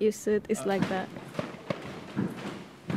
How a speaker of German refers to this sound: Nur einen Steinwurf entfernt vom forensischen Labor des Komitees für die Vermissten. Am Anfang haben mich die Schüsse schon irritiert, ja. Aber jetzt bekomme ich es gar nicht mehr mit. Du gewöhnst dich daran.